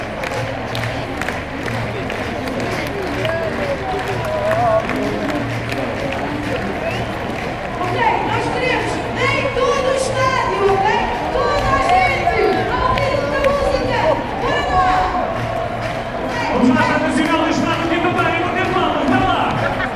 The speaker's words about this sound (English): They're getting the crowd going here. I think they want some kind of sing-along.